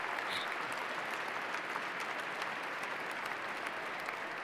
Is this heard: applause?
yes